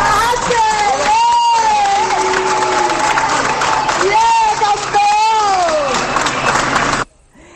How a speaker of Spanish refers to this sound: Aplausos que sonaban en la Plaza del Obradoiro, pero también cuando entrábamos ya en el casco de Santiago, en la zona en el cruce de Concheiros.